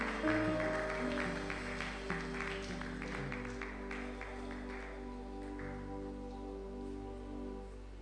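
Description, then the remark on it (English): An audience claps steadily for several seconds, a dense crackling wash of many hands, with sustained keyboard chords playing underneath and no voices. “Oh, that should be spontaneous clapping.”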